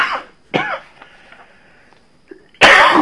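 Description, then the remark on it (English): A few harsh coughs: two quick bursts near the start, then quiet, then a louder, longer rough cough at the end. No one speaks. “They're going to hear you coughing.”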